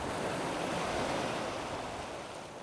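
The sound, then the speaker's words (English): Waves wash onto a beach in a steady, hissing rush of surf that swells and then eases slightly toward the end, with no voices present. “We're near a beach.”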